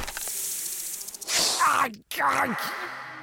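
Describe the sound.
A venomous snake beneath a horse's skull hisses, a steady airy hiss followed by two louder, raspy voiced hisses with a brief gap between them, fairly loud; the hissing appears to be imitated by a voice.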